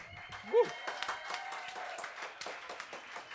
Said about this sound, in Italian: per cui chiederei un altro convinto applauso.